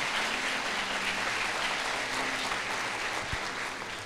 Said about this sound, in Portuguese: Você pode aplaudir Jesus por isso?